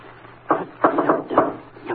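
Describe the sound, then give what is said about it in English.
A man knocks firmly on a second-floor door of an old apartment building in East St. Louis, Illinois, in an uneven, deliberate rhythm: a quick cluster, a pause and a final rap, each hit dull and woody over a low steady hum. “He set on the floor what looked like a brand new suitcase, then knocked with a rhythm.”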